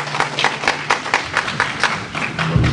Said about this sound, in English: When you applause, you are wasting the time of the speakers.